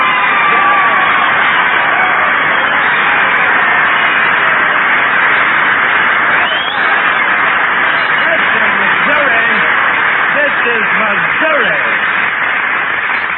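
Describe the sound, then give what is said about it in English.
A large audience in Missouri applauds and cheers a performer's entrance in a steady, dense roar that holds at full loudness throughout. Scattered shouts and whoops rise above it, all sounding thin and band-limited like an old broadcast recording. “Oh, Jackson, listen to that applause.”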